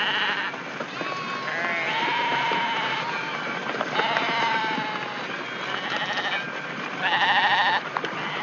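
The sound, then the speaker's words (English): A flock of sheep following a Judas goat into a slaughterhouse bleats continuously, with many overlapping wavering cries and a louder burst of bleating near the end, over a steady background of shuffling and movement. “See, when they get to the slaughterhouse, he ducks to one side and the silly sheep go in to get their throats cut.”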